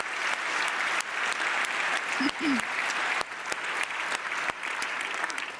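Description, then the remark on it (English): A crowd at the Congress in the CCH claps steadily for several seconds, a dense, continuous wash of applause for the POC's 135,000 DECT calls, with a brief vocal sound rising faintly underneath partway through. “That is worth an applause.”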